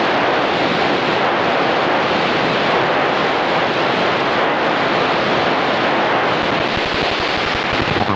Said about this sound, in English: Okay, we were on 740. That's where you heard the hiss. And then we went up to 750 for a moment, and you heard the Price station main carrier that was generating the IBOC hiss.